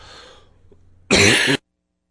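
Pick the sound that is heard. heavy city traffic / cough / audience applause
cough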